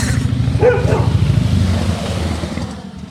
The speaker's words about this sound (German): Achtung, Motorrad. Jetzt kommt ein Chopper, ein Hubschrauber.